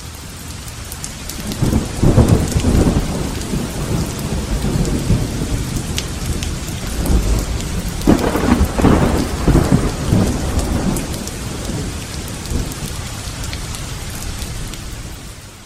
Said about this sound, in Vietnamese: Một trận bão ác liệt khác lại đổ ập xuống.